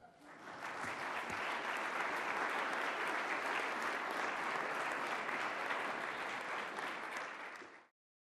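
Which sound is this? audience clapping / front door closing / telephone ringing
audience clapping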